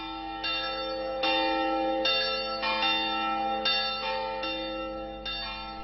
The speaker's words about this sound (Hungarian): tegnap este 7 órakor már az ő tiszteletére szóltak a harangok.